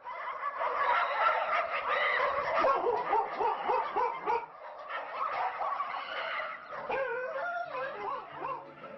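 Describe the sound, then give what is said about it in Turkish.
A pack of street dogs barks and snarls in a loud, frenzied tangle of overlapping yelps and growls as they attack a businessman out walking in Ataköy, Istanbul, Turkey, unbroken for the whole stretch, with no one speaking. “Bir iş insanı yürüyüş yaptığı sırada çok sayıda sokak köpeğinin saldırısıyla karşılaştı.”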